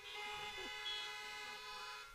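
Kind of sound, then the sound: vehicle, car horns honking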